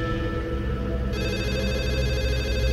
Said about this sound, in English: And that's when the phone rings. Not mine, not the one I have in my hand, but the landline phone. I snatch it up.